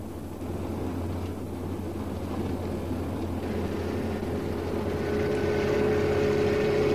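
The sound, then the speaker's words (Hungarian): A police motorcycle following a car: its engine drones steadily, gradually growing louder, with a higher whining note rising in over the last couple of seconds. No one speaks. “Egy motoros rendőr követi.”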